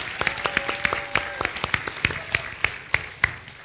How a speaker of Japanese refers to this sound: Can you give him a big hand? 大きな拍手をお願いします